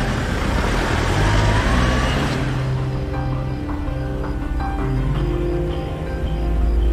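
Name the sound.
van driving away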